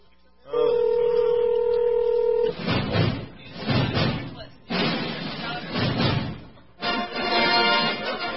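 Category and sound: signal or alarm, telephone number being dialed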